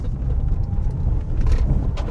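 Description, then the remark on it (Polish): A car rumbles along a rough, uneven road strewn with bricks and rubble in Głowno commune, Poland, its low engine and tyre noise steady and loud, with irregular knocks and rattles from bumps scattered throughout. “Zresztą państwo zaraz usłyszą, jak będę jechał. Słychać, jak to jest nierówno.”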